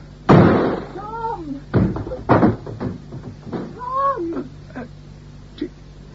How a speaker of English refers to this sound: I see what I thought I saw. A door smashed open with a fist. Or am I still dreaming?